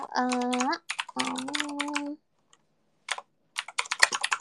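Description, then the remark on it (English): Rapid clicking of computer keys as someone types to look up the price and shipping of a cosplay costume online, first under a sustained voice, then after a brief silence continuing alone in quick bursts of crisp keystrokes. “Wouldn't it be crazy if you guys could tell what I'm typing just by listening to the keys?”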